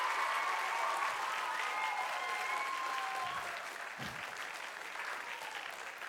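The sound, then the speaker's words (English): An audience claps their hands in steady, dense applause that holds at an even loudness throughout, forming a continuous crackling wash of many overlapping claps. “Clap your hands, all you nations. Come on, 30% of you doing it.”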